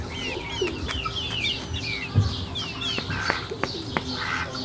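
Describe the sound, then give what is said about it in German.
A large duck quacks low and rough amid a busy flock of very young hens, whose high chirps and peeps repeat steadily throughout, with no one talking. “Da hört man die Ente.”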